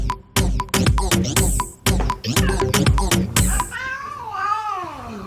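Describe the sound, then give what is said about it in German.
Rhythmic, percussive music plays at first, then a tomcat whose claw is stuck in a sofa lets out a long, wavering meow, rising and falling in pitch like a drawn-out yowl. “Seine Kralle hing da fest und ich habe ihn kurz befreit.”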